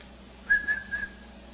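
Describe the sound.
A person whistles to call people, one short, steady whistle at a single clear pitch, held for under a second with a slight wavering swell, heard alone at moderate volume against a quiet background.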